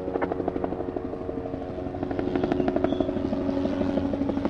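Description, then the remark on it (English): A helicopter drones steadily overhead over Center Point, a suburb of Birmingham, taking in the damage; its rotor blades beat in a fast, even thump that grows slightly louder toward the end, with no voices present. “All morning long, police radios cackled, ambulances raced across town, and helicopters flew overhead taking in the damage.”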